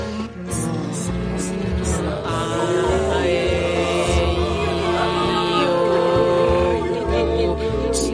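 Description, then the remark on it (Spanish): A short, loud, upbeat radio jingle plays continuously with layered instruments and a steady beat, bright and produced like a broadcast sting, with no talking over it. “Este jingle es una mierda, yo no participo.”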